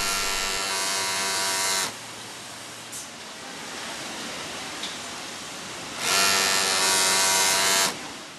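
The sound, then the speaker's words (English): Sewing machines buzz in a factory: two loud, steady motorized runs of about two seconds each, separated by a stretch of quieter mechanical hum and clatter, with no talking. “Bill says this factory's got a very efficient buzz.”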